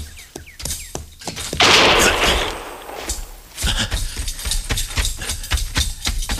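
Sharp gunshots crack in quick succession, broken by a loud roaring blast, then another rapid, uneven volley of shots fires off to the end.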